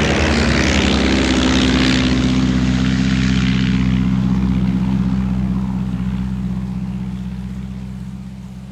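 A propeller aircraft engine drones steadily with a deep, throbbing hum and a rushing hiss, loud at first, then the roar gradually softens over several seconds. No one speaks.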